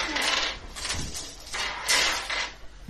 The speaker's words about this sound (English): At which point, I roll your dice. Yeah, do you want to sit in that chair to roll my dice? Can I just cast them all you have? All the dice. All of the dice.